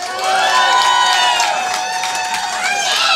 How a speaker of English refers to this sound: Round of applause. And I'm assuming this will be a larger round of applause than in most cities. People who have taken mushrooms before.